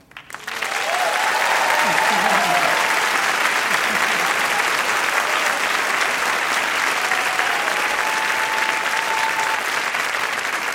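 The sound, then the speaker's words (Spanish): Steady, dense applause from a large audience fills the whole stretch, loud and sustained, with faint voices and a few cheers rising briefly through the clapping. “Y también quiero que le demos un fuerte aplauso a un gran amigo, un gran productor, un gran músico, un gran colega de Puerto Rico,”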